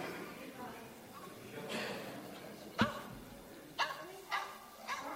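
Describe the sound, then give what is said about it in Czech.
A dog barks four times in sharp, separate bursts, the first loudest, with a short gap before three quicker barks, heard over a faint background hum. “Pes, to je jednoduchý, jdem dál.”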